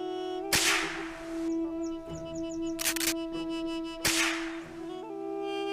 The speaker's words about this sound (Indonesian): Gawat, Rosie dan Popo mendengar suara tembakan berkali-kali. Semakin lama suaranya semakin dekat.